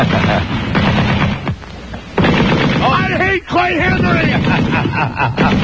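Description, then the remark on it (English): A gunfire sound effect in a comedy bit on the Don and Mike Show: rapid, loud bursts crackle almost continuously, briefly dropping out twice, with a voice speaking over the shooting and some wavering, whistling tones in the middle. “He was heard to exclaim before police sharpshooters took him down,”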